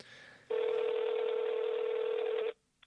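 A telephone line rings once with a steady, buzzy two-second tone, loud as if through a handset, then falls silent before a faint click; a phone call placed to speak through an interpreter.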